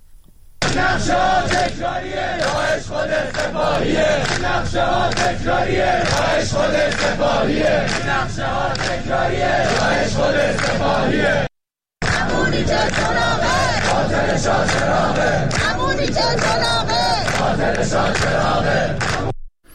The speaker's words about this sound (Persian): دانشجویان در چندین شهر از جمله در تهران فریاد می‌زدند که حکومت و سپاه عامل حمله به شاه چراغ است.